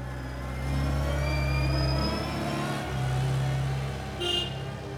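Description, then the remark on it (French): A tractor engine revs up and holds a deep, rumbling drone, easing off and surging again a couple of times, steady, with no one speaking. “Envoie le bruit de nos tracteurs.”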